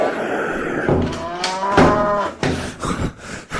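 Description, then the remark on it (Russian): Heavy wooden thuds knock against a door in an uneven series as a cow bangs its horns on it, while the cow lows loudly in the middle and a voice murmurs faintly. “Спасибо, уж очень сильная она, корова эта, и тяжелая, рогами вон как стучит.”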